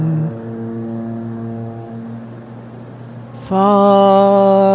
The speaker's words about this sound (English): Foghorn. I feel like I could listen to foghorns all night. They make me feel calm. I suspect I'm not alone. Calm and forlorn, which is a nice combination, according to me.